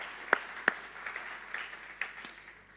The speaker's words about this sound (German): Einen ganz herzlichen Applaus für unsere Lobpreiser auch.